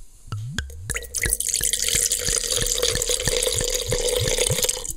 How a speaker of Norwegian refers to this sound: Så da må vi helle glasset.